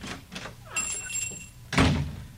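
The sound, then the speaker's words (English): A door of a music shop opens as a customer enters, with a thin high ringing tone lingering briefly before a solid, broad thump as the door swings shut. No one speaks. “It'll be wrapped up for you, Dizzy, while I take care of the gentleman coming through the door.”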